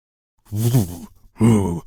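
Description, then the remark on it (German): A person imitates the deep, booming bass voice heard from cinema loudspeakers when the lights go out, with two drawn-out, wordless vocal swells, low and resonant, separated by a short pause. “So ein richtiger Bass, der dann plötzlich aus diesen Lautsprechern kommt.”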